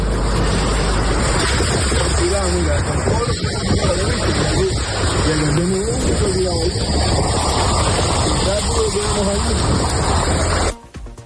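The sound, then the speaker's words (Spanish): A loud, steady roar of rushing floodwater, recorded by people driving through the flood as some cars are swept away by the water, pours past without letup, with indistinct voices faintly audible beneath it, until it cuts off abruptly near the end. “Uno de ellos, usuarios que conducían en medio de una riada viendo cómo algunos coches incluso eran arrastrados por el agua.”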